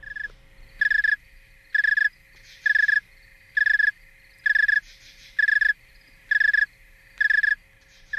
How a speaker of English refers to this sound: I think we also have a clip of a cricket at a colder temperature.